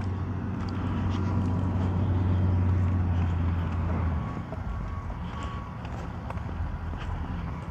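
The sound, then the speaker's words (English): A heavy, steady low-pitched engine rumble from a road grader flattening land between new apartment buildings under construction across a park drones loudly for about four seconds, then eases to a lower, rougher idle with faint clanks and clatter over the top. “And that rumble noises that you're probably hearing is the grader that they've got flattening out the land between a couple of the buildings.”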